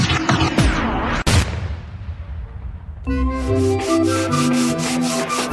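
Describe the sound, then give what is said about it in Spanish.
Loud scratchy rubbing like sandpaper worked over wood, sanding in a workshop, with one sharp knock partway through, then upbeat music takes over in the second half. “Nos lleva a un taller y lija, acuarelas, un poquito de Titan Lux por aquí y un poquito de purpurina por allá y le voilà.”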